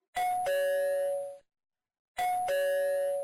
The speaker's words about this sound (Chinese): 门铃声在要到六点的时候准时响起，我踩着轻快的小步子跑过去，猫眼外正是老公。